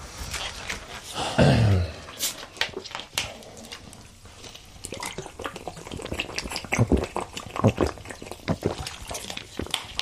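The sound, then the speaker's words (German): Someone sipping water: a string of small, irregular slurps, swallows and soft clicks of a glass over several seconds, with a brief low hum of voice between them. “Ja, warte, nee, dann, ich trinke noch einen Schluck Wasser.”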